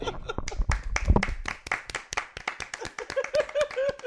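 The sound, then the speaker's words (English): Light, polite golf clapping from a few pairs of hands, a steady patter of soft claps lasting several seconds, gentle, with a brief voice or murmur mixed in near the end. “I think they deserve a little golf clap then.”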